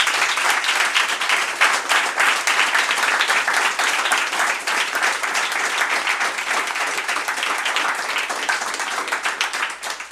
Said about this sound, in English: Can we just have a warm round of applause for this amazing panel?